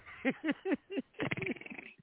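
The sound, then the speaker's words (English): A person vocally imitates a soft, purring snore: several short breathy grunts, then a longer fluttering rattle, like a kitten's purr. “A kitten purr, a snore that sounds like a kitten purr sounds like this.”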